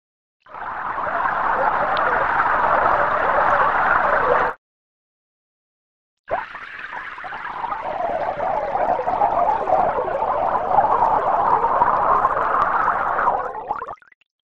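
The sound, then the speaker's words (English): Dense, continuous computer-simulated bubbling water in two bursts: a few seconds of churning, a short silence, then a longer stretch of steady gurgling that cuts off abruptly. No voices. “It took this kind of simulation data and made sure that now we can not only add bubbles to a plain water simulation, but also simulate how they would sound.”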